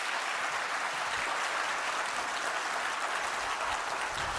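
Steady audience applause as a speaker is welcomed onto the stage for a talk on digital violence, a dense crackle of many hands clapping at an even, sustained loudness with no voices over it.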